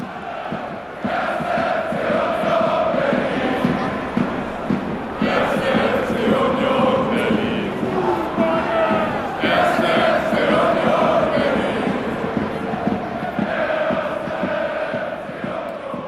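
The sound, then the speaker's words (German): A large football crowd of nearly 20,000 spectators chants in unison at a 1. FC Union Berlin match on a sunny afternoon, a dense roar of many voices rising and falling in rhythmic waves, loud and sustained throughout with no single speaker standing out. “Ein sonniger Fußballnachmittag beim 1. FC Union Berlin. Mit mir fast 20.000 Zuschauer. Das hört sich wirklich beeindruckend an.”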